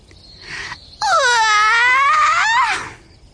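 A breathy intake followed by a long, loud, voiced yawn from a bat in a tree hole as it wakes up; the pitch dips low and then rises again, lasting nearly two seconds before trailing off into a soft exhale.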